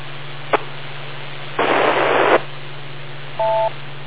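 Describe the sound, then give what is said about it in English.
Moonbounce radio echo beep from station KQLIW: over a steady low hum and hiss, a click and a loud burst of static give way to a single short, clean two-tone beep near the end. “Okay, I hope that was the beep.”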